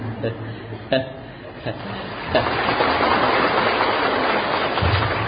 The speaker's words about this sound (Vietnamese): Thiếu nợ mấy cái tràng pháo tay hoài không biết trả chừng nào cho xong.